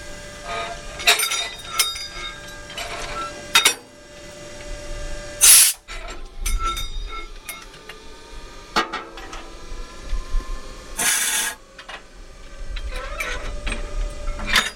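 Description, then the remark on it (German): Metallic clanks and scrapes as a train driver uncouples a red locomotive from car-carrying wagons at the Maschen marshalling yard near Hamburg, Germany, separating the main air line, brake line and screw coupling, with two sharp bursts of hissing air around five and eleven seconds, over a steady mechanical hum with no talking. “ich habe jetzt die Hauptluftleitung getrennt von der Lok zum Wagen, die Bremsleitung und die Schraubenkupplung habe ich gelöst”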